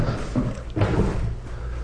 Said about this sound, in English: That was the garage door opening.